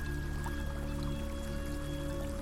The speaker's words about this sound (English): And you can hear the river now.